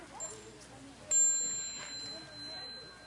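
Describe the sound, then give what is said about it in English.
A meditation bell is struck once, its clear ringing tone sustaining and slowly fading for a couple of seconds, with faint, indistinct murmur underneath. “when you hear the next bell, you bow to the Sangha and you go out.”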